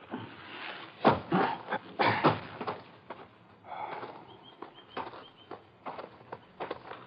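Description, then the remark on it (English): Several irregular thuds of hooves and footsteps shuffling on dirt as horses are tethered to a couple of spruce saplings, with a few louder stamps early on and softer scuffing steps afterward, no voices. “We tethered our horses on a couple of spruce saplings, moved into the cave entrance.”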